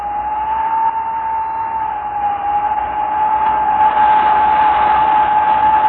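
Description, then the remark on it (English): On a cold night, wind whistles down the automatic elevator shafts of Massey Tower, a 32-floor steel, aluminum and glass building, in one steady, piercing high note over a broad rushing hiss, holding the same pitch throughout and swelling slightly louder toward the end. “For example, on cold nights, the wind whistles down the automatic elevator shafts. A lonely, piercing sound.”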